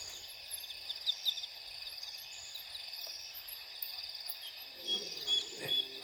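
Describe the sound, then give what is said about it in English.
A distant lion, probably about 3 kilometers away or more, roars at night around 3:30, a low, muffled rumble swelling near the end over a steady, shrill chorus of crickets and insects. “Oh, there's a lion.”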